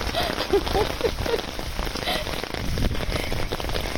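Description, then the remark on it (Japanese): Steady rain pours down in a dense, continuous hiss with little wind, with scattered drops pattering and spattering on a surface throughout. No one speaks. “まあ、まだね、風がそんなに強くないから、あのそれほど濡れてないんですよ、服がね。”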